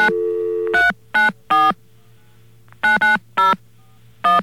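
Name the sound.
telephone number being dialed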